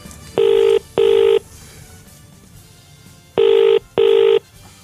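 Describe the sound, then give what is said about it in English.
A telephone ringing tone on an outgoing call: two double-burst rings, each a steady buzzy tone, separated by a pause of about two seconds, clear and fairly loud over faint background hiss. “If a child answers the phone, that's it.”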